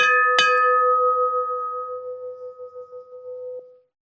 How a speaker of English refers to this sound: So we're on the upper deck of the ship and we're going to start heading forward. But of course, there's a bell, so of course, we must ring said bell.